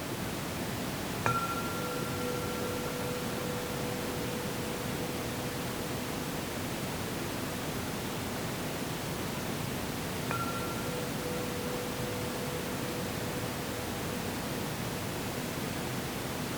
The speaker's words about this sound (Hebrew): אז אני אבקש לכם רגע לעצום את העיניים שנפנה את תשומת הלב אל הכרת האוזן, רק כדי נראה שזה משהו מאוד פשוט, מיידי, אוטומטי שמתרחש כל הזמן, וכשאני אצלצל בפעמון, תשימו לב למגע החושי, לרגע של השמיעה. זה הכרת האוזן.